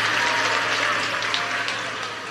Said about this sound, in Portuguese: Os que podem, tomem seu assento, aplaudindo a Jesus, porque ele é bom, porque ele é maravilhoso.